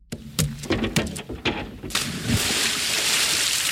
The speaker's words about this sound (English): There we go. So that sounded like somebody diving into the sea.